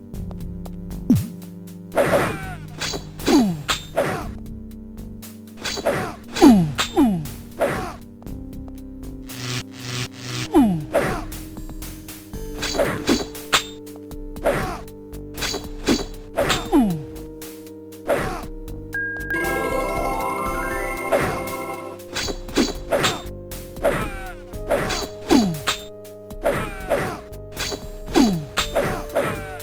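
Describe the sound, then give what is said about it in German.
Repeated sharp whacking hits from a battle in the video game Lands of Lore, three heroes attacking in turn, two with swords and one with a crossbow, giving sword strikes mixed with lighter clicks, over sustained background music with swooping tonal effects, a lightning spell and a brief rising chime marking a healing spell. “wenn unsere drei Helden nacheinander angreifen, zwei mit Schwertern, eine mit der Armbrust, das klingt dann Schlag, Schlag, Klick, Schlag, Schlag, Klick”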